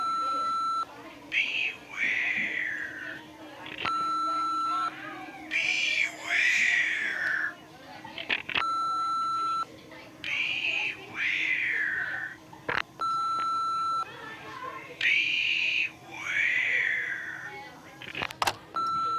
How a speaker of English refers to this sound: Anonymous phone calls all day. Really? Someone keeps calling, whispering, then hanging up. I got so bugged I stopped answering the phone. Here, listen to the answering machine.